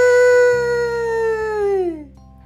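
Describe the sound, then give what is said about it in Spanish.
A human voice imitates a wolf howl that mixes the vowels A and E, the howl for a sheep as prey: a single loud sustained tone lasting about two seconds, sliding gradually downward in pitch before fading out. “Si la víctima es una oveja, el lobo deberá mezclar la A con la vocal E. ¡Ae!”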